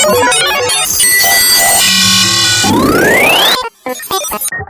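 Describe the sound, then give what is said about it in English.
A loud, busy jumble of computerized digital noises: layered electronic bleeps and buzzing tones, a rising synthetic sweep, then choppy, stuttering glitch bursts, with no voices. “Computer digital noises.”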